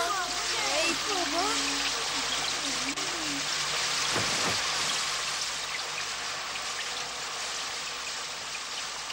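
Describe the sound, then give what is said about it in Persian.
A steady, dense hiss of heavy, sudden rain that has just started falling during the second half of a football match pours down throughout, with brief wavering voice-like tones near the start and a low thud partway through. “اینطور که معلومه به علت باران ناگهانی که شروع شده مبارزه در نیمه دوم بازی باید خیلی جالب باشه.”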